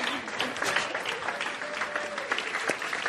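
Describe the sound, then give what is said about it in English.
A crowd applauds steadily, many hands clapping in a dense, continuous patter that holds fairly loud for the whole stretch, with a faint tone and some murmuring mixed in. “You can clap until I'm done.”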